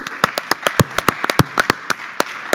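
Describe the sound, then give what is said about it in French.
Scattered audience applause at the Atrium in Dax: a dozen or so sharp, irregular claps, fairly loud and crisp, sounding like only a few people clapping rather than a full crowd, with no voices over it. “On vous applaudit encore une nouvelle fois.”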